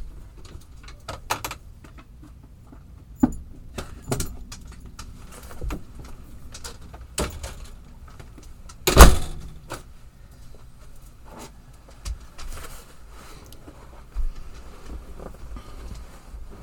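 Scattered knocks sound against a door at irregular intervals, with one sharper, louder bang midway through. No one speaks, and the room is otherwise quiet apart from a faint background hiss.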